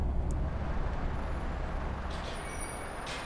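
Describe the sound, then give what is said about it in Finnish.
A bus idles with a deep, steady engine rumble, then releases short hissing bursts of air from its brakes as it comes to a halt. “Bussin pysähtyessä he jäävät ulos yhtä aikaa ja lähtevät toisen asunnolle.”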